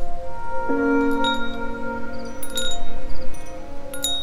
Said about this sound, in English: Wind chimes made of little glass angels, and they're hanging over Odette's porch.